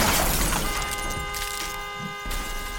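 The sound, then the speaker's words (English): A loud crash of an Oldsmobile careening off the road at at least 60 miles an hour and slamming into a telephone pole, a sharp impact burst followed by glass shattering and ringing metallic debris that lingers and settles, with no voices. “her Oldsmobile careened off the road and smashed into the pole.”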